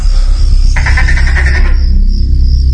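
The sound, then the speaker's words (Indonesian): A tokay gecko in a house after dark gives one loud, raspy, pulsing croak lasting about a second, set against a steady low rumble and a thin high-pitched whine running throughout. “Sampai terdengar suara tokek di rumah ini.”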